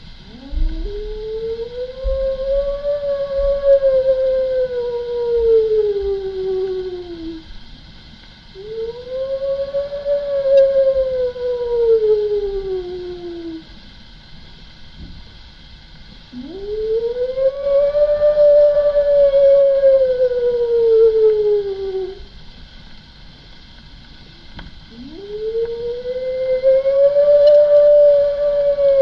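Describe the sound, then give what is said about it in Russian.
A human voice imitates a she-wolf's howl: four long, drawn-out wavering howls, each rising then slowly sliding down, with short pauses between, loud over a faint low background hum. “…, подражающего вою волчицы.”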